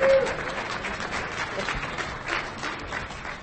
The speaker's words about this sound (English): The only applause.